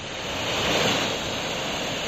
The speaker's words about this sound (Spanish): Así baja el río Henares a su paso por Guadalajara, rozando el nivel rojo.